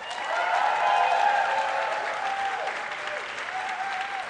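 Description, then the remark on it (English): An audience breaks into steady applause as a vote for Steven Soderbergh's filmography, a dense wash of many hands clapping at once with a few whoops mixed in, holding a fairly even loudness throughout. “Round of applause.”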